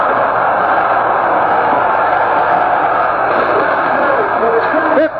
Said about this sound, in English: They're standing and cheering right now as the Hornets dig in and do it again.